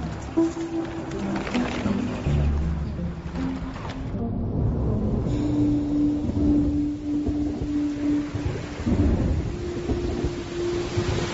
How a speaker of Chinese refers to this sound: 这下雨了